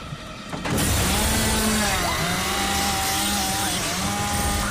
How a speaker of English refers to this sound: The chainsaw cuts through the roof of the van. Sparks shower over them.